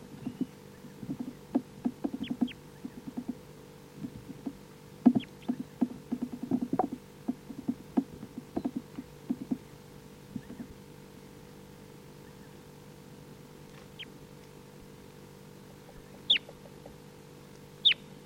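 birds

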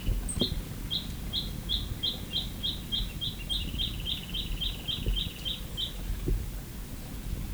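chick peeping

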